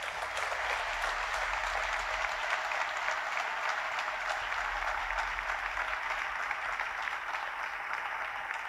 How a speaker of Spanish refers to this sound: Por lo tanto, pido un fuerte aplauso para ella.